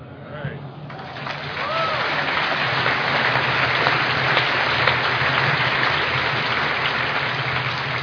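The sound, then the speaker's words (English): Audience applause swells up after a second and holds steady as dense, continuous clapping with scattered whistles and cheers mixed in, a full crowd sustaining it for several seconds. “That applause is not for me, guys.”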